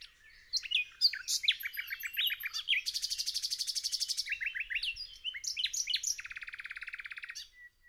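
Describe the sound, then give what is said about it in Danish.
A nightingale sings alone in a rich, varied run of high phrases: quick chirps and whistles, then rapid buzzing trills of repeated notes, loud and clear throughout. “Svagere og svagere blev hendes sang, og hun mærkede noget i halsen, der var ved at kvæle hende.”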